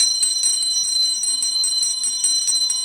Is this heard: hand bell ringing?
yes